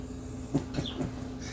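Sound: birds calling outside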